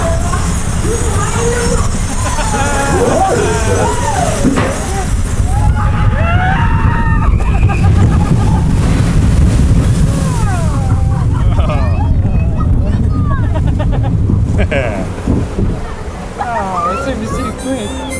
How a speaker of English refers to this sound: There's so much water splashing around in this ride.